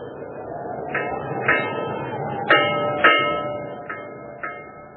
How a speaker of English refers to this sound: And you hear, through this gray darkness, this wet, wet tolling, the dankest, dismalest bell in all the world.